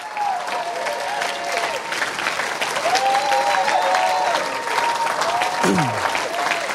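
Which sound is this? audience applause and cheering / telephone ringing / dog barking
audience applause and cheering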